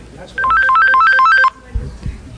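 A cell phone rings with a fast warbling trill of alternating high and low tones, loud, lasting about a second before cutting off, followed by faint low rustling.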